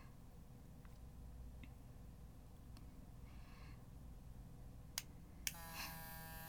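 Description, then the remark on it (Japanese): A few faint clicks over a low background rumble, then an electric toothbrush is switched on near the end with a steady, high-pitched buzz, applied to the clitoris. “まず電動歯ブラシをクリトリスに当てます”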